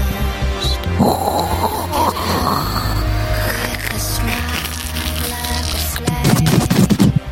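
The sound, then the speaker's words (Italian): A voice imitates a stovetop coffee maker gurgling: a loud, continuous rough sputter with low rumbling and hiss, breaking into choppier, louder bursts near the end. “Nel frattempo abbiamo una diapositiva dalla regia che ci fa ascoltare il rumore della macchinetta del caffè, dal quale appunto poi sgorga.”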